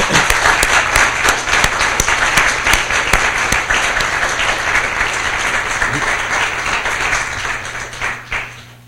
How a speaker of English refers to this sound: I know you didn't want to leave with any fanfare, but I do want to thank you very much for all you've done for the library for such a long time, and I would ask you all to have a round of applause.